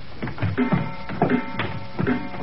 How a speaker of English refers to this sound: I wish these stairs didn't squeak